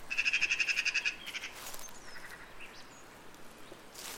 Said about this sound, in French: J'entends quelque chose. Qu'est-ce que c'est? C'est la pie qui chante.